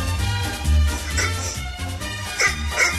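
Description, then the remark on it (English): A dog named Mackie lets out a short bark to pick the Green Bay Packers over the Tampa Bay Buccaneers in an NFL game prediction, against a dense, steady background, with a couple of quicker sharp bursts following; no one speaks. “One bark for the Packers.”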